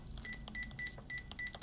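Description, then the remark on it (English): Six short, evenly spaced telephone keypad tones beep in quick succession as a woman dials a number on a phone, fairly soft against a low background hum, with no talking. “reaches for the phone. She dials.”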